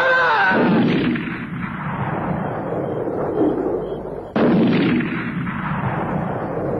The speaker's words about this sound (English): The shots blasted holes through the tent, tore the top of the tent right away